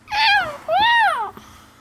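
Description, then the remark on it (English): A voice imitates a cat, giving two drawn-out meows in quick succession, loud, the second rising and falling longer than the first, followed by a faint click and quiet. “you're not … anymore, you're a cat?”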